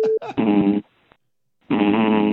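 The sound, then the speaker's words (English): A dog snores twice into a phone during a work call, each snore a loud, low, buzzing rattle lasting about half a second, with a short quiet pause between them. “And my boss keeps getting right behind my head and snoring into the phone when I'm on a work call, in case you couldn't hear at the beginning of the message.”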